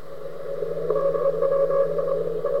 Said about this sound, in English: Another recording. Russian spy satellite. Second generation spy satellite.